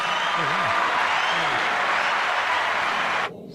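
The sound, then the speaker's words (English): A steady burst of clapping from a crowd, given as applause for Curly Comedy, holds at an even, loud level for about three seconds, with a brief voice over the start, then cuts off abruptly. “We'll give Curly Comedy some applause.”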